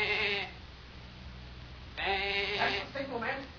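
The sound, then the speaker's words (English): A person imitates a sheep as a signal, giving a short bleat, a pause, then a longer wavering baa-like call, moderately loud against a quiet background hum. “Now, we'll slide out and give the sheep signal.”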